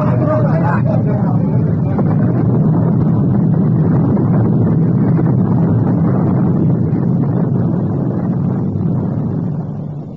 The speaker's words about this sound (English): Once proud Morning Star slid beneath the waves, her boilers bursting in her last dying gasp of defiance.